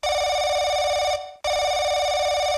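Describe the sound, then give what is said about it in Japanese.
A telephone rings loudly in two bursts with a short gap between them, its bright electronic trill repeating steadily with no one speaking. “はい、お電話ありがとうございます”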